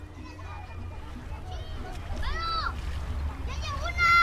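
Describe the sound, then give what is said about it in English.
Outdoor ambience on a Sunday afternoon on the southern, Mexican bank of the Rio Bravo (Rio Grande), a narrow desert river, with scattered water splashes and children's voices calling and shouting over a steady low rumble, the activity growing a little louder toward the end. “Sunday afternoon on the southern bank of the Rio Bravo, known on the other side as the Rio Grande.”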